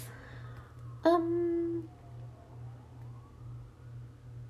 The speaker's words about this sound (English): If you hear the sirens in the back, I apologize. They're going by my house right now, so we're gonna try to wait it out until they stop.